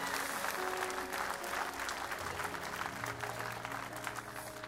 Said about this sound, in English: Give the Lord a clap offering and thank him for touching these people.